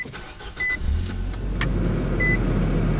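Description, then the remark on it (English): A car engine cranks and catches at 8 a.m. on a nearly freezing morning in Salt Lake City, settling into a steady low idle rumble, with a couple of short electronic dashboard beeps chiming over it. “It's 8 a.m. and nearly freezing outside as you rush to start the car.”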